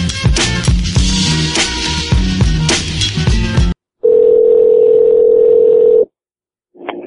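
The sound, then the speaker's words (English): A few seconds of busy, rhythmic music cut off abruptly, followed by a loud, steady telephone dial tone lasting about two seconds, a short silence, then the tone briefly returning. “Alright, let's try Delmonico again, see if there's no echo this time.”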